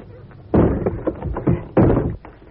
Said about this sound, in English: No need to whisper. If he didn't hear you kicking down his door, he must be stone deaf.